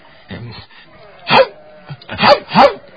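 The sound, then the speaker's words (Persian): A person's voice imitates a dog barking, with several short, loud bark-like bursts in quick succession, starting with a softer grunt and ending with rapid paired yaps. “اینجا که کسی نیست پارس می کنم”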